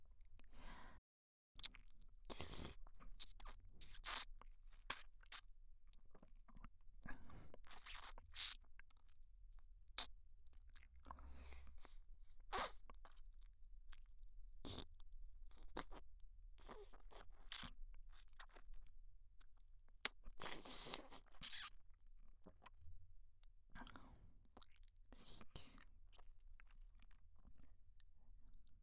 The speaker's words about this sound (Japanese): 舐めてない方の耳を塞ぐと、さっきよりもエッチな水音が脳に響くでしょ。まるで頭の中を舐められてるみたいな。